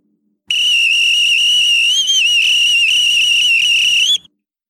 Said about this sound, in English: Posey pulled out his lifeguard whistle and blew.